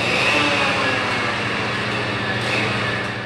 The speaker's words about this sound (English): Huge machines run back and forth on long stretches of track, grinding down rails and carrying new ones. Crews deep in the tunnels take huge saws to pieces of metal. And cranes drop other pieces on the ground.